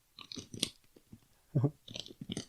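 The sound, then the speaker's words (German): Crunchy chewing of potato chips from a bag right up close to the microphone, a series of irregular crisp bites and crackles with a heavier thud in the middle, and no talking. “Ich mache euch mal vor, was passiert, wenn man da reinbeißt.”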